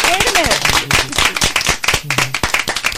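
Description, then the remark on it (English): A small group in a studio claps their hands in a dense, uneven burst of applause lasting a few seconds, lively, with a few voices calling out underneath. “We got to give her a real clap.”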